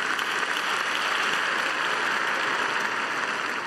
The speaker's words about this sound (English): Clap it up for me one time.